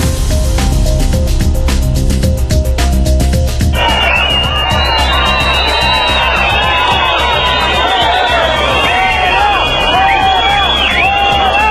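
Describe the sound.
A large crowd at the Police Academy in Ávila, Spain, erupts in loud, sustained whistling and booing at Interior Minister Grande-Marlaska during a swearing-in of new police officers, with shouts of "fuera, fuera" layered throughout; the din swells sharply a few seconds in and stays dense until the end.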